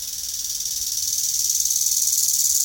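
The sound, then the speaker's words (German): A bow-winged grasshopper (Nachtigallgrashüpfer) sings alone, recorded in studio quality, a high, hissing buzz of rapid, evenly pulsed chirps that swells slightly louder over a few seconds. “Hier deshalb der Nachtigallgrashüpfer in Studioqualität.”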